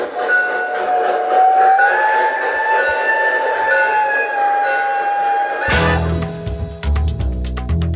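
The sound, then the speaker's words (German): A steady, slightly wavering whistle-like tone holds for several seconds, then a train-like rumble starts as the speaker drives the vehicle back, and its bell clangs repeatedly in a quick, even rhythm. “Ich hab's. Glocke.”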